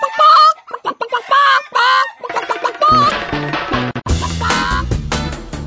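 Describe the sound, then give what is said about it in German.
Chickens cluck and cackle loudly, first in several short excited bursts, then continuing over a denser, busier layer of sound for the last few seconds. “Irgendwie erinnert mich das Gegacker an deinen Gesang.”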